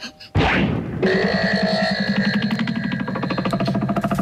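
A transition sound effect called the arrow, signalling a change of location: a sudden loud whooshing burst, then a bright, buzzing electronic tone that holds steady with a fast rhythmic pulse until the end, with no voices.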